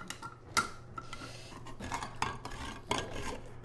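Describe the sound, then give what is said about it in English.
Rice toasting in butter in a pan for consommé rice. A steady low sizzle is broken by several rasping, scraping bursts as the grains are stirred. Moderately loud, with no voices. “To the rice toasting in butter, she adds water and Campbell's beef consommé.”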